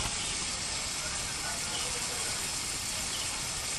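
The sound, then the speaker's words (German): A steady, even rush of flowing water at a waterfowl enclosure fills the whole recording, a constant broad hiss with no pauses or other distinct sounds. “Wir stehen hier gerade vor den Wasservögeln. Möglicherweise hört man immerhin das Rauschen.”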